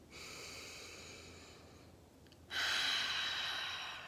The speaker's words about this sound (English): So pausing, breathing. Let's take a deep breath right now, actually.